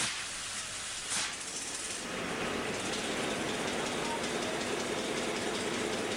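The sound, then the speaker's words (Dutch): Engines start up after a small wheel is turned to build pressure: a low rumble quickly swells into a loud, steady roar that keeps running without a break. “Zo, en dan, dan horen we nu hoe de motoren worden gestart.”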